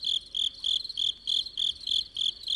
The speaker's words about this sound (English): We began the show by telling you that about a dozen years ago, chirping crickets in Hawaii went silent. Marlene Zuck knows why the majority of male crickets on the islands of Oahu and Kauai no longer make a peep or a chirp.